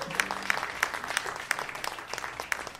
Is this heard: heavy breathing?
no